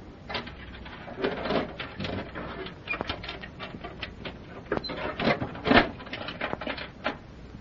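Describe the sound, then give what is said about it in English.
A jail door being locked: a busy run of metallic clicks, clanks and rattles, irregular and fairly loud, with a sharper clunk near the end and no voices. “Why do you lock that door behind us?”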